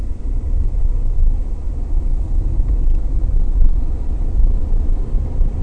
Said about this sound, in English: So I guess, so as not to bore people too much with the sound of my voice droning on, or the car actually droning over the top of it, I will call it a day now.